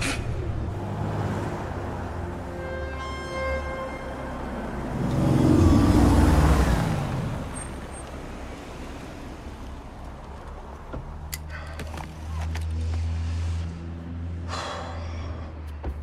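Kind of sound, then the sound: vehicle, car driving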